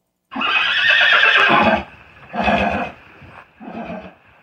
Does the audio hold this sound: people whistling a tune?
no